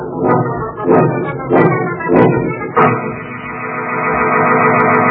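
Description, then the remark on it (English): The signature squeaking door of the Inner Sanctum Mystery program creaks shut with a loud, drawn-out squeak: five rhythmic groaning pulses of rising pitch, then one long, steady, reedy creak that holds to the end, with no voices. “Well, it's time to close that squeaking door for another 7-day rest.”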